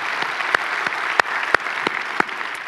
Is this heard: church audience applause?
yes